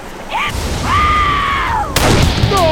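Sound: revolver gunshot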